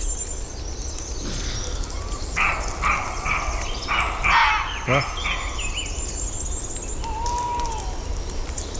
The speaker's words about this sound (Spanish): escuchando los ladridos de un corzo, y de pronto se cuelan también, junto a los ladridos del corzo, los ladridos del zorro